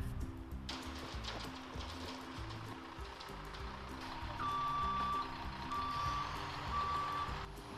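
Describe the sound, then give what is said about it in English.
A concrete truck arrives for a concrete pour at a barn, backing up with its engine rumbling loudly, then steady, evenly spaced reversing beeps start partway through and repeat over the heavy drone. No one speaks. “And now we're just waiting on the concrete truck.”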